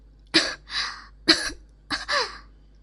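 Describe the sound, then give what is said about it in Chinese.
Three fairly loud coughs spaced about a second apart, each a sharp burst trailing into a raspy, breathy tail, with no talking around them. “小贱人咳嗽是因为小贱人天生低贱，生来就卑微，没有享受过主人的这般贵气，不习惯而已，绝不是因为主人鞋子不干净或者有其他的味道，主人别误会。”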